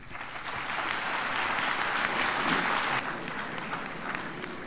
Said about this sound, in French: Il y a une sorte de brouhaha qui suit les applaudissements.